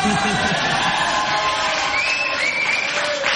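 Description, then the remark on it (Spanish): A studio audience at a TV show's studio on Gorriti Street shouts and cheers together on a Friday in a loud, sustained roar of many voices, with a few higher whoops rising above the crowd noise. “Bien, ha sido uno de los peores gritos en la historia del programa.”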